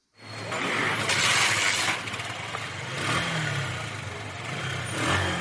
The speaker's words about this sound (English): calls on passengers to hop on his motorbike at Nakasero Market, one of the busiest in Uganda's capital, Kampala.